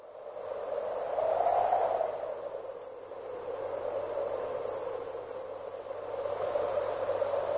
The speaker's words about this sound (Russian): Это дует сильный ветер. Слово, которое передает этот звук – «хью-хью». «Хью-хью» передает, как дует ветер.